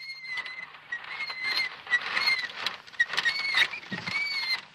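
Squeaking of an unoiled child's tricycle: thin, high-pitched squeals repeating in an uneven rhythm over a soft background rustle, moderately loud, with no talking.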